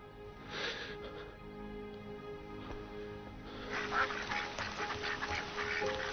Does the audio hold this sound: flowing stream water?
no